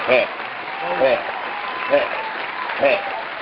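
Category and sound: crowd, round of applause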